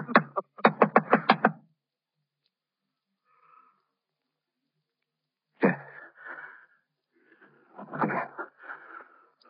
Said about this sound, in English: I knocked on the door.